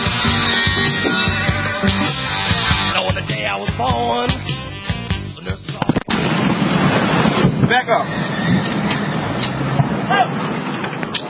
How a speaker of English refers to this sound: Man, that was that little piece of tape that you just heard there, folks, was a cargo freight train that smashed into a trash truck and derailed in a Baltimore suburb. And it was such an explosion, it rattled houses, they say,